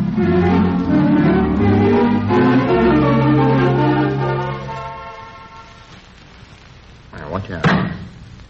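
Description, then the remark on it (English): A car door slams shut once, fairly loud, near the end, following several seconds of sustained droning tones and background murmur. “You nearly slammed that door on my foot.”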